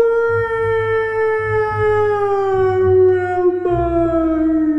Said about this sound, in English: A distant howl echoed.